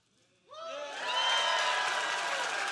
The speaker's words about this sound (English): So let's just show our preschoolers that we're really happy they're here and say welcome and clap and